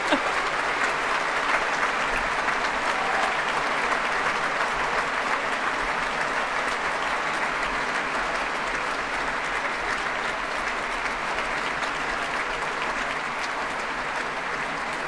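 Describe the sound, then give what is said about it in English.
Sustained, steady applause at the Proms from a large concert audience and the BBC Scottish Symphony Orchestra, a dense wash of clapping that holds at an even loudness throughout without pause. “Still clapping, musicians and audience.”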